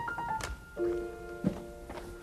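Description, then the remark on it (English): A few dull, spaced knocks at a back door, one heavier low thump among them, set against steady sustained musical tones, with no one talking. “Sounds like someone at the back door.”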